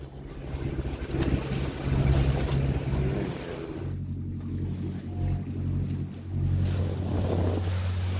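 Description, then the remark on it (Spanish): A boat's engine drones steadily while wind buffets the microphone and water rushes and splashes against the hull, the rumble swelling and easing throughout with no voices; the boat is crossing from Órzola, Lanzarote, to Caleta de Sebo on La Graciosa, Spain. “Pues venga, vámonos, subimos al barco en Órzola, en Lanzarote, y vamos a llegar a la caleta de Sebo, en La Graciosa.”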